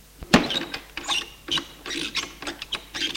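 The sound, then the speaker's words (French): A key turns in a door lock, making a quick run of sharp metallic clicks and ratcheting rattles over a few seconds, with no voices. “Ferme la porte à clé pour qu'Iris ne puisse pas intervenir.”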